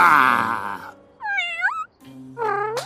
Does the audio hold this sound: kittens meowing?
yes